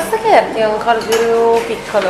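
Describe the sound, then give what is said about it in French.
Busy coffee bar background in a café laboratory, with dishes and cutlery clinking, layered under a murmur of voices talking. “Alors, ce laboratoire café, on peut choisir la provenance de son breuvage.”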